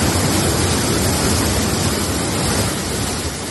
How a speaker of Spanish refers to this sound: Esto que escuchas es el desbordamiento del arroyo Cortecero en Manzanares el Real. El agua sin control fuera del cauce en medio del pueblo, mientras el cielo se iluminaba con decenas de relámpagos.